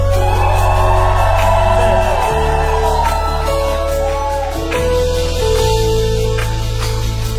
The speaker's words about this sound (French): Est-ce que tu peux pousser des cris de joie?